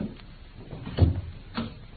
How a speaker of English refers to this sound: I think I hear the fairy footsteps of your estimable partner.